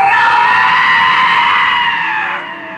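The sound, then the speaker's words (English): A man lets out one long, loud, strained scream that holds steady for nearly three seconds before tapering off slightly at the end, with no talking around it. “Screaming dude.”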